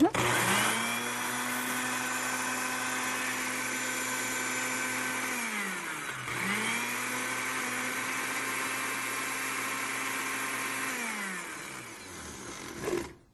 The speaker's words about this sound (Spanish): Ok, esta licuadora no es tan fuerte como quisiera